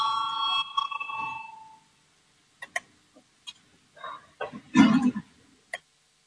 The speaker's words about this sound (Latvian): Lūdzu zvanu, balsosim par 23. Finanšu ministra Reira priekšlikumu, lūdzu balsosim.